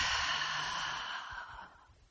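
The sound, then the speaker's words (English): A single deep, slow exhale through the mouth during a guided grounding breathing exercise: an airy, breathy rush that starts full and gradually fades over about two seconds, with no talking. “So, just take a few deep breaths with me, breathing in through your nose and out through your mouth.”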